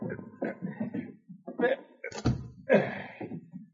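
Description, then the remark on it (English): A wooden cabin door shuts with a single solid thunk partway through, while people keep talking before and after it. “Drag him inside the cabin. We'll close the door.”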